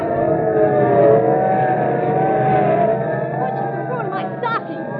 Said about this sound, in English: Okay, listen, sirens. Yeah. Look, police cars, and are they rolling? And we better start hopping. They're not slowing down for anything.